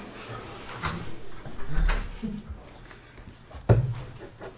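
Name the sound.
door being closed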